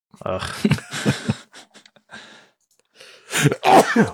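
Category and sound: human body sound, sneeze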